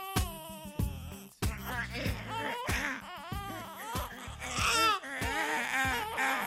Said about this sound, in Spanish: Cuando de repente le sorprendió el llanto de un niño.